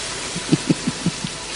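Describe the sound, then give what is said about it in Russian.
A steady, soft hiss of falling rain fills the background, with a short series of dull, low thuds from heavier drops landing. No one speaks. “Маэстро, кажется, дождь собирается.”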